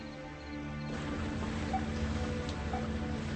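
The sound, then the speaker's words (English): A boat motor drones steadily on the water, a low humming engine tone with constant churning wash around it, continuous throughout. “Can you drive a boat?”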